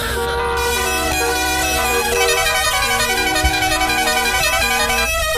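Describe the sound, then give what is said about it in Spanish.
Car horns honk continuously, several overlapping steady tones blaring loudly at once for the whole stretch, with no talking. “No existe ningún equipo de radio que le dé paso a la DGT con esos claxons de los coches.”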